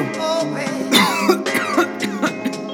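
A string of four or five sharp coughs in quick, uneven succession, fairly close and loud, layered over a steady tonal music bed.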